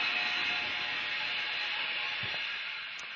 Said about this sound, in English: Let's imagine that we have this little green tree frog which ends up jumping into a blender. Now, we start the blender.